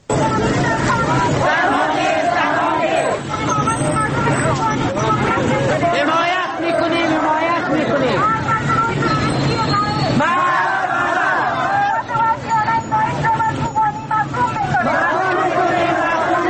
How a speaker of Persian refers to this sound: کوبانی تنها نیست، یکی از شعارهایی است که از سوی اعتراض کنندگان در مرکز شهر هرات سر داده شده است. زنان و مردان اعتراض کننده عکس‌های زنان کوبانی را که ملبس با لباس نظامی دیده می‌شوند در دستانشان حمل کرده و به حمایتشان شعار می‌دهند.